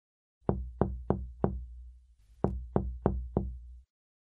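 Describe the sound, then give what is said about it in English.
Two sets of four firm knocks on the wooden door of a little white house in the forest as Snow White knocks, evenly spaced with a short pause between the groups, clear with no voices. “She knocked at the door.”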